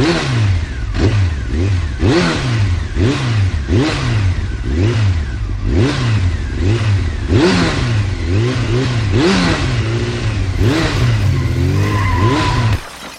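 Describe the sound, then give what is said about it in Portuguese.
A car engine revs hard over and over, its pitch sweeping up and down in a steady cycle, loud, then cuts off abruptly at the end as the car brakes hard. No one speaks. “E o freio funcionou rapidinho.”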